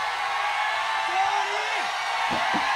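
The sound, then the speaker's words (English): A large outdoor crowd at Market Square, a DVE radio audience at a live-to-tape broadcast, cheers in a steady, dense roar, with a rising-and-falling whistle or whoop cutting through partway and a couple of sharp shouts near the end. “Jimmy Crenn, listen to this crowd.”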